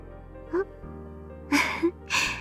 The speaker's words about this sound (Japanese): 大きなあくび。あなたも同じようですね。